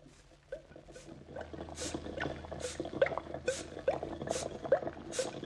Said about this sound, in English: All the bubbling and sizzling and hissing noises out there sound like